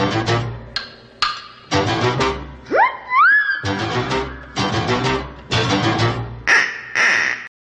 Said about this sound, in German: Allein dieser Ententon finde ich toll. Er ist fast so cartoonartige Sounds. Also, ist cartoonartig.